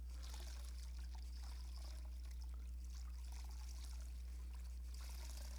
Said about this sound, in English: As you fill that vessel God's love starts doing what? What's it doing right now? It's pushing that water out, isn't it?